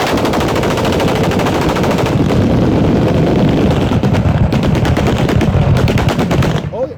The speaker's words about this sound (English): C'est particulièrement bruyant parce qu'ils ont lancé des cibles volantes face au stand de tir et donc ça s'agite dans tous les coins.